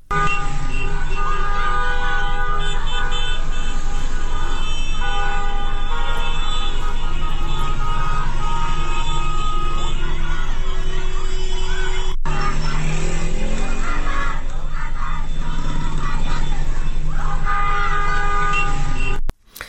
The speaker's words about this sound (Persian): دختر در سنین پایین 12-13 سال و حتی برخی دانش آموزان دبستان ها که در درون مدارس و یا در بیرون مدارس تظاهرات کردن، شعار دادن که میتونیم یکی شو که مال امروز صبح هست بشنویم که میگن به رانندگانی که از جاده خیابون رد میشن میگن که بوق نزن، فریاد بزن.